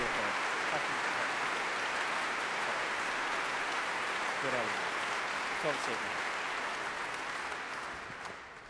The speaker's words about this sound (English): Pretty good applause considering you've played nothing yet. You better be good, mate. Don't be nervous.